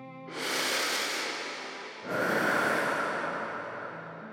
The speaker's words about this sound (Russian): «Чернила», — ответил мастер, поднес склянку к носу и глубоко вздохнул.